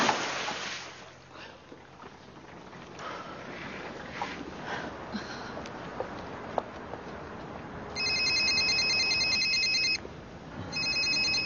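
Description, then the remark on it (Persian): A phone rings with a bright electronic ringtone in two bursts, the second starting after a short pause. It rises clearly over a quiet, rumbling background with no one speaking. “تلفنت زنگ میزنه.”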